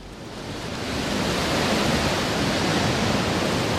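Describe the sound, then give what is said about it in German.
The Rhine Falls in Switzerland, Europe's largest waterfall, roars steadily as hundreds of thousands of litres of foaming water rush down each second, a dense wall of sound that swells in the first second and then holds loud and unbroken, with no voices. “Hunderttausende von Litern schäumendes Wasser Sekunde für Sekunde. Der größte Wasserfall Europas gehört zu den größten Tourismusmagneten der Schweiz.”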